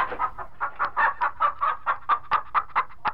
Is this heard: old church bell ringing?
no